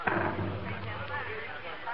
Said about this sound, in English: Oh, well, that's just the fever cannon from New Orleans. You can hear it when the wind's right.